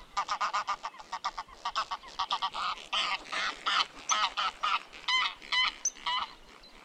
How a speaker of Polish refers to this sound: Gęś. Gdy mówimy o niej, zapewne mamy na myśli gęś domową lub gęgawę. Zresztą gęś hodowlana to udomowiona forma gęgawy.